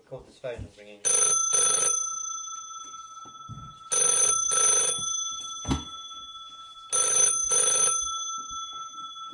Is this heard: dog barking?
no